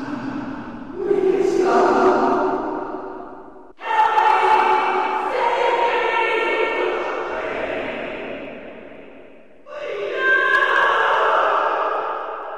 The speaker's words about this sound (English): When you fight through Naxxramas, you'll sometimes hear a female voice scream in the distance.